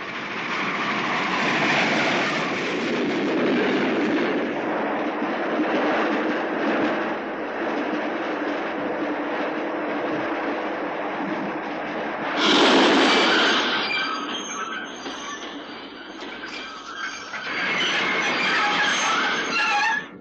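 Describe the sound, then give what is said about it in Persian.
A train carrying political officials rumbles steadily past, its wheels clattering along the rails with a brief burst of louder noise and squealing near the end, never stopping at this place. “این ترن مامورین سیاسیه، هیچ وقت اینجا توقف نمی‌کنه.”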